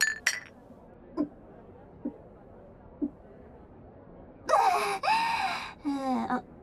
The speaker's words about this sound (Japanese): はいはい。じゃあ、我らがギルドマスターに。 乾杯！